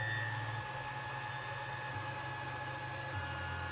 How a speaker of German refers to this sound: ich glaube, das ist der 3D-Drucker hier, der arbeitet gerade. Das ist ja auch, da halte ich doch glatt mal rein, liebe Hörer, wartet mal.